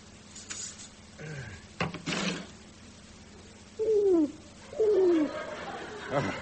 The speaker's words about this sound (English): The pigeon's out on the windowsill